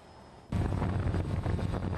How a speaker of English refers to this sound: The drones are remote controlled with a camera attached to their belly to shoot videos and photos.